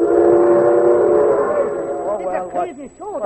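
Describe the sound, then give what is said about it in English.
A loud, sustained train whistle blows a steady, chord-like tone for about two seconds, then breaks into wavering, bending pitches as the rumble of the train continues underneath. “Here! Take a train! It's faster anyway!”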